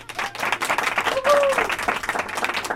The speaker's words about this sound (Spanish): Ha sido un aplauso de 10, ¿eh?